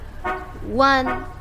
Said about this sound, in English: Hear that car horn beeping?